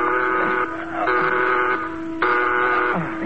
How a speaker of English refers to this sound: There's an alarm sounding, sir, all over the ship.